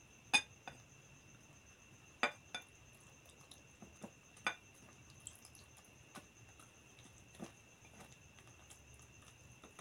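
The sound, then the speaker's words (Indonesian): Sharp, irregular clinks of a utensil tapping against a bowl as sugar-and-salt water poured into flour is stirred with a stirrer, about a dozen crisp taps spaced unevenly over a faint steady hum, with no talking. “Lalu kita tuang ini air yang gula sama garam. Kita tuang ya. Kita pakai ini, adukan ini biar gampang.”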